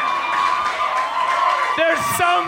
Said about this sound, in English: There are so many women screaming. If one of your girlfriends is screaming that loud, look at her like this.